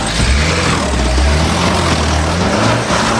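A loud, close vehicle engine roars steadily under strain, its low rumble churning continuously with shifting pitch as it is pushed hard, with no voices present.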